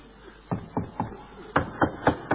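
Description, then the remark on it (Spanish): Knocking on a door by the next-door neighbour: a set of three firm raps, a brief pause, then four more, sharper and louder, each a dull, hollow thud in a steady rhythm. “Golpe a la puerta.”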